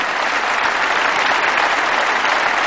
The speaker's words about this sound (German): Wir grüßen die Freunde in den Niederlanden, die auch heute ja mit dabei sind. Applaus aus München für euch in den Niederlanden.